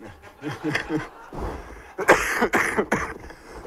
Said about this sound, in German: Entschuldigung, wenn ich zwischendurch mal kurz ab und zu mal husten muss. Ich hatte eine Erkältung und die ist gerade aber am Abklingen, also ich bin nicht ansteckend oder so.